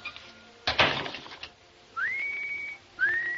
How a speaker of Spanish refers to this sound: Lauren Bacall conquistó a su marido Humphrey Bogart en su debut en Hollywood, precisamente en Tener o no tener, con algo tan sencillo como enseñarle a silbar.